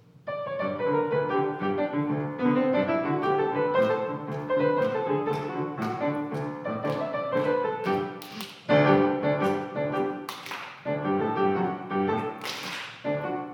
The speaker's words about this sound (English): Clapping again.